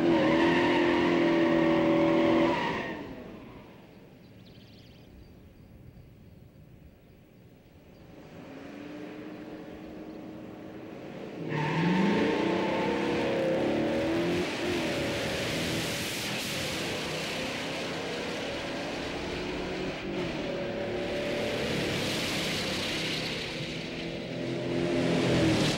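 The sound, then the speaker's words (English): A multi-carburetor drag racing car roars loudly, drops to a low idle rumble, then revs and accelerates hard with rising engine tones sweeping upward through several gear changes, a continuous loud mechanical howl. “It's the only multi-carb car here that we're running.”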